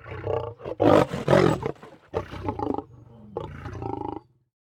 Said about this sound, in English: Ostriches can run faster than horses, and the males can roar like lions.